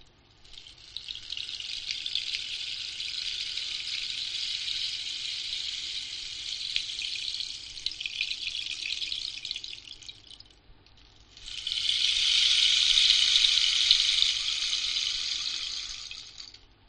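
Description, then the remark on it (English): A bottle filled with uncooked rice shaken to imitate rain, a steady bright hiss of rattling grains lasting about nine seconds, then a brief pause and a louder, denser burst of shaking. No one speaks. “Find your bottle filled with uncooked rice and move it slowly for a few drops of rain.”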